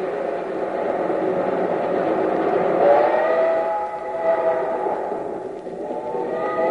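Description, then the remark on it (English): A steam train rumbles steadily along the rails, a continuous mechanical roar with rising whistle-like tones sliding through the middle, swelling briefly then easing off. “Come on, you old iron horse. Run! There go the cars out the other end.”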